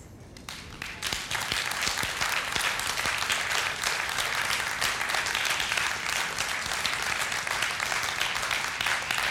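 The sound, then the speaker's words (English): A crowd breaks into sustained applause, dense overlapping claps building quickly after a quiet start and holding steady and loud for several seconds. “But who we will clap for?”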